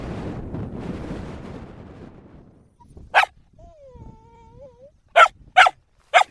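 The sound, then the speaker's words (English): Dogs barking outdoors in the morning at a Nenets reindeer herders' camp on the tundra, in a windy open setting: one sharp bark followed by a thin whine, then three loud barks in quick succession over steady wind rumble. “It's morning in the Nenets camp, day two. The dogs are up.”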